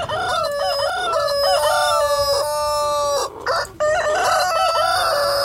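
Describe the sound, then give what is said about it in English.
Loud rooster crowing, with long drawn-out calls overlapping almost continuously, as if several birds crow at once, broken by one brief pause near the end. No one speaks. “But I think a forgotten victim in all this was the neighbours of the place, because they had 540 birds there as part of their cockfighting ring. So just imagine 540 of this.”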